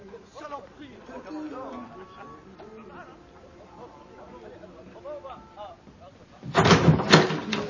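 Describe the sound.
Soft, indistinct voices murmur for several seconds, then a sudden loud burst of rattling and clunking near the end as the door of a room is opened.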